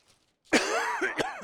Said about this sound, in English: Well, I got a cough just like everybody else does here tonight. Hopefully it'll stop for all of us.